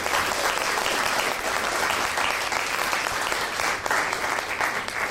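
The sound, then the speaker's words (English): Sustained applause from a large audience, a dense, steady wash of clapping that stays loud and even for about five seconds with no voices rising above it. “Round of applause for that one.”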